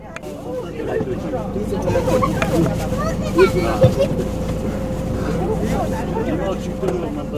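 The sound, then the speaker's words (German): A steady, droning engine rumbles inside an old Soviet PAS 3205 minibus carrying 21 people on a 700-kilometre trip to the village of Hamburg, mixed with a constant murmur of overlapping passenger conversation, loud throughout. “Die Gespräche der Fahrgäste und das Geräusch des Motors vermischen sich immer mehr. Es ist laut und unbequem im Bus.”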